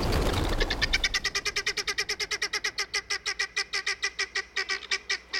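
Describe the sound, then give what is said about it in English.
Guinea fowl sound off in a rapid, rhythmic stream of harsh, metallic alarm calls warning the flock that a predator approaches, dozens of repeated squawks steady throughout, with no other sounds. “These are calls of alarm, warning all members of the flock that a predator approaches.”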